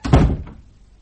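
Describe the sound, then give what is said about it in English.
A door shuts with a single heavy, low thud that rings briefly and then fades away, with no voices over it. “Now, thank you to get your foot out of that door before I fetch a policeman.”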